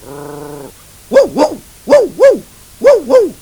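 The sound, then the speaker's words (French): A dog barks in three quick pairs, six sharp woofs in a steady double rhythm, loud, after a short low harmonic tone at the start. “Par exemple, quand il voit le chien.”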